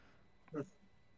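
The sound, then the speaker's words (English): A single short cough, a quick breathy burst in the middle of an otherwise quiet moment, with no talking around it. “It's a voice on the wind, so I had to cough like the wind.”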